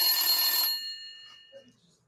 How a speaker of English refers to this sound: I think you gotta answer the phone. He's on the phone? Yeah, you gotta answer the phone.